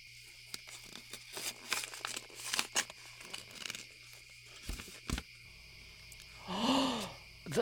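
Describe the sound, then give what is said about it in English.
Paper crinkling and tearing as a gift is unwrapped, coming in irregular rustling bursts with short pauses, ending in a louder crumple; a faint voice murmurs near the end. “This is for you. Huh? What is it? Open it.”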